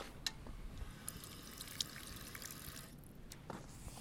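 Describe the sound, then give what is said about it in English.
Water runs steadily from a drinking fountain spout, with a few sharp splashy clicks and gulping sounds as someone takes a second drink; no one speaks. “Hey, should I go for a second little go of water?”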